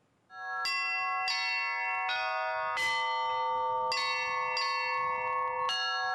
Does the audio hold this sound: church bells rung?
yes